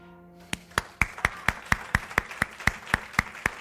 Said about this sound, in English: Si le vamos a dar un aplauso a quien lo hizo. We're going to give an applause to the one who did it.